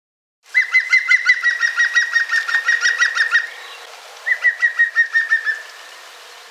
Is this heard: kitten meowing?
no